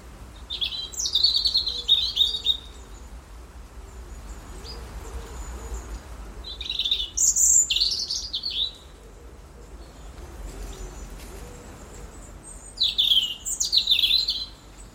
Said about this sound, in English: The autumn song battles of robins.